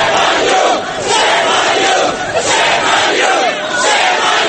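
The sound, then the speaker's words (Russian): A group of New York hotel maids chanting in unison after a defendant leaving a courthouse, a loud rhythmic crowd chant repeating the word "shame" in steady bursts roughly every second, with overlapping voices filling the whole clip. “Вслед им группа горничных нью-йоркских отелей скандировала слово «позор».”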